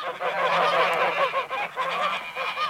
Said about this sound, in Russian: Вышла и опять бежит с братцем, а гуси увидели, да за ней совсем налетают, уж крыльями бьют, того и гляди, из рук вырвут.